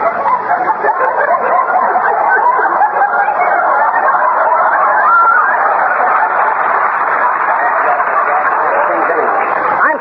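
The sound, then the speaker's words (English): A crowd of chickens next door squawks and clucks nonstop, their overlapping calls forming a loud, dense racket that holds steady from start to finish. “the chickens don't know what they're doing”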